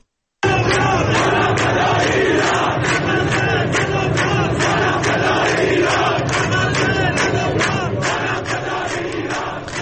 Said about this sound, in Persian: بشنویم یه دونه رو با هم، شعار میدن مردم.